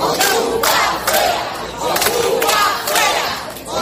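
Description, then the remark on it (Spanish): A large crowd of neighbours gathered in front of an occupied house chants the slogan "¡Ocupa fuera!" (squatters out) in unison, loud and rhythmic, the shouted phrase repeating in strong bursts roughly once a second with a dense murmur of voices underneath. “Esta mañana, además, pensaban que habían logrado echarles ya del pueblo porque muchos vecinos se concentraron este pasado lunes delante de la casa al grito de ocupas fuera.”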